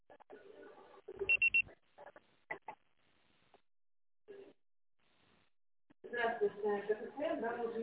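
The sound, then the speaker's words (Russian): A single loud electronic voicemail beep, a short steady tone about half a second long, cuts in after a faint, phone-quality automated message saying the call was forwarded to voicemail; a few quiet sounds follow before a person starts talking louder. “Ваш звонок был переадресован на голосовой почтовый ящик. Можете оставить сообщение после сигнала.”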